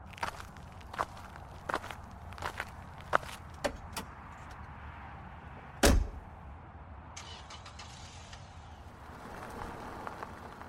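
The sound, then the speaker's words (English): A man's steady footsteps at walking pace as he walks back to his car, then a single heavy thump partway through, followed by a few fainter taps over a constant low outdoor rumble. “He stood, patted me on the shoulder, and walked back to his car.”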